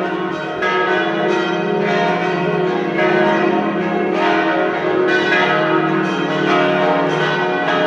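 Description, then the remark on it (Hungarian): The church bells of Loreto peal continuously on a town square with a fountain, arcaded palace, bell tower and basilica, loud and rich with overlapping ringing tones that sustain without pause, with no voices. “Egy gyönyörű téren vagyunk, Szökőkút, árkádos palota, harangtorony, és a középen a bazilika.”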